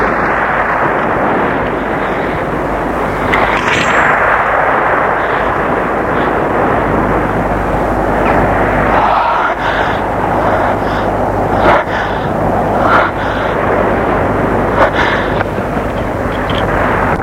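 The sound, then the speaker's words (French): A raging storm wind roars over a rough sea under a black sky, with gusting rain, around a small boat. A loud, dense, unbroken rush of noise with deep rumbling beneath and occasional sharper gusts and crashes breaking through. “Le vent fait rage, la mer est houleuse, le ciel est noir.”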